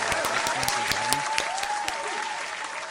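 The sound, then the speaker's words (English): A crowd applauds a trivia winner steadily, dense clapping at an even loudness throughout with a few sharper individual claps standing out, and a faint voice or whistle-like tone sliding underneath. “Let's get that round of applause.”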